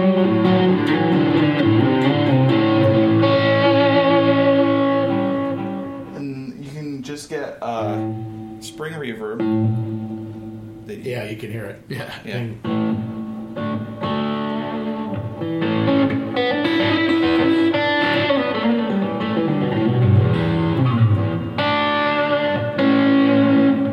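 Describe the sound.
Sustained musical tones wash together with a spacious reverb and repeating delay echoes, the tails lingering and smearing into each other. A voice briefly speaks partway through.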